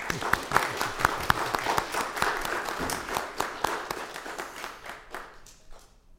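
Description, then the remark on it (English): An audience breaks into warm applause for graduates, many hands clapping in a dense, steady patter that holds strong for several seconds before tapering off at the end. “If y'all want to give these graduates a hand of applause, I think that would be appropriate.”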